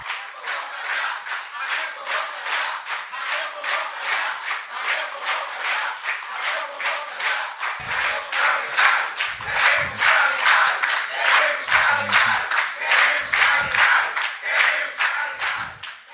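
Education workers at a public hearing chant the slogans "Raquel convoca já" and "queremos calendário" in unison, demanding new calls from the state's 2022 civil-service exam. Voices rise and fall in a steady, rapid rhythm with clapping on the beat, loud and continuous throughout with no pauses.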